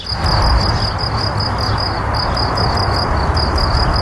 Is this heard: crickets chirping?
yes